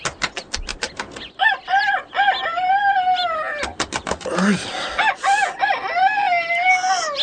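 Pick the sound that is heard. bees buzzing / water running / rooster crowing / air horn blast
rooster crowing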